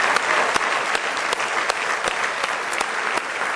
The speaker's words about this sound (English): Give him one more great big hand clap of praise if you love him with all your heart.